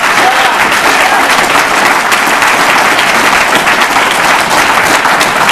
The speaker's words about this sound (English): And I want to just give praise to the convention committee, man. Listen, let's give them a big hand. Yeah.